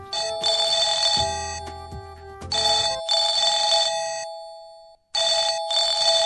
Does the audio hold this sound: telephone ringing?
yes